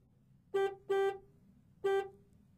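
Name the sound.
car horn honking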